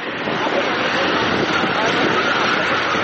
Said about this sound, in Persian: صدای تانک ها و خودروهای زرهی اسرائیلی در اطراف نوار غزه.